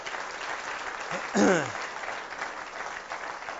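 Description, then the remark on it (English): A crowd claps steadily throughout in a dense, even patter, with a single brief whoop rising out of the applause partway through, showing appreciation for a team of young men who stood up in front of them. “Why don't you show your appreciation for them?”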